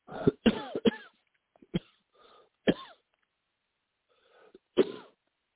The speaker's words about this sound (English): I'm sorry for coughing. I don't know what I caught, but it's just like a phlegm.